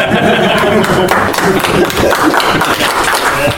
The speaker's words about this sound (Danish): Du må gerne klappe.